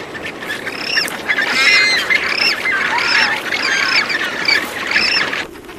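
Harsh, repeated squawks from several rockhopper penguins clash in a frantic, overlapping brawl as a male fights off chick snatchers to protect his chick, loud and raucous throughout with a steady rough background hiss, ending abruptly.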